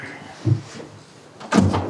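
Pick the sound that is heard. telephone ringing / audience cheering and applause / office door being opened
office door being opened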